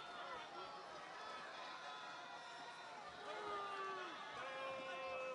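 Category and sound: crowd, baseball crowd booing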